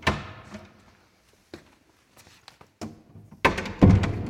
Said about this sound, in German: Bald ist Ostern und dann kommen wieder Menschen und dafür rücken wir dann auch die Stühle wieder um.